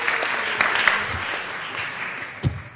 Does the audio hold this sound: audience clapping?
yes